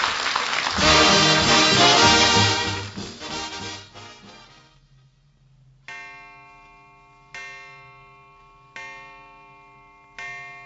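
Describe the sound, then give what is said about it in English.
A loud burst of music fades out, then a clock chime strikes four times at a slow, even pace, each bright ringing tone decaying before the next, marking dinner time in a Kraft Dinner commercial. “Great heavens, there's the chime.”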